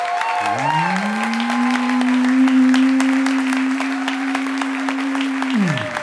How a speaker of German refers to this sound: Als allererstes brauchen wir jetzt euren Applaus für Leonie und die Gemüsebrühe. Euer Applaus!